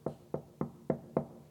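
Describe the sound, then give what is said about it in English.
Five firm, evenly spaced knocks on a door, each a dull, solid thud with a short ring after it, heard on their own with no voices. “He's knocking.”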